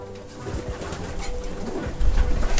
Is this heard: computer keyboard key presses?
no